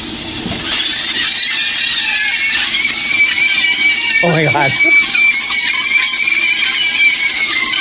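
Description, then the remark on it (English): Frying sausages let out a steady, shrill squeal of wavering high whistling tones over loud sizzling hiss, eerily like people screaming; a voice briefly exclaims partway through. “So this is a flying sausage sounding like screaming people.”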